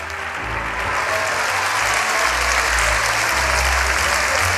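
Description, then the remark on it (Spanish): Sustained applause in Spain's Congress of Deputies as the standing PP benches applaud the opposition leader's speech, a dense, steady wash of clapping that stays loud and even throughout, with a faint low murmur underneath. “Este es sonido directo del Congreso de los Diputados, los aplausos a la intervención del líder de la oposición”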